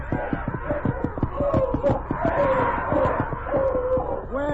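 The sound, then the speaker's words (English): A pack of dogs barks and yelps in rapid, overlapping bursts, loud, with a steady frantic rhythm and no pause for the whole stretch, as the dogs close in on Whisperfoot at the edge of a river. “The dogs are closing in on him.”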